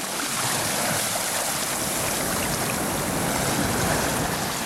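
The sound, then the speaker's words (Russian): Loud, churning water of the Yamuna River rushes and foams continuously for several seconds, a dense roaring surge with huge waves, steady with no voices. “Вода бурлила и пенилась, вздымались огромные волны.”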